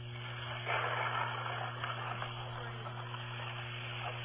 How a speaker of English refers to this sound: Yeah, it's thunder and rain.